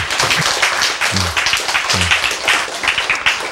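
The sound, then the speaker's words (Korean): A crowd bursts into steady, dense applause, many hands clapping at once in a sustained, loud wash that fills the whole stretch without pause. “그러니까 연주자를 바꾸시라 이 말이야. 박수!”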